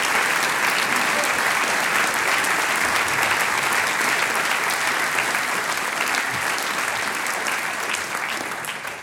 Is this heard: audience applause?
yes